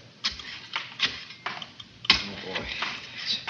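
A Geiger counter taking a radiation reading in an airlock crackles with irregular sharp clicks, around eight over a few seconds, uneven in spacing and loudness against a faint hiss, with no voices.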